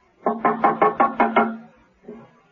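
Mrs. Peel knocks on John Steed's open front door at his apartment in the Mews: a rapid series of six firm, evenly spaced knocks on a wooden door, resonant, followed after a short pause by one softer knock. No one speaks.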